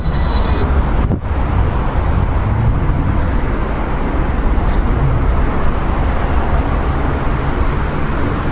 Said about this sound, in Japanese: で、まああの買ってきた IC レコーダーがですね、非常に感度がよろしくてですね、これでもあの感度を落として収録してるんですが、それでも非常によく車の音が入ると。